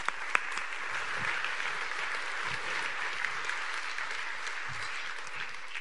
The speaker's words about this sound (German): Vielen Dank. Einen Applaus.